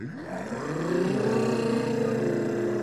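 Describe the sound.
A group of children's voices imitate a jet plane's roar, a droning hum that swoops upward in pitch and then holds steady and loud for a few seconds.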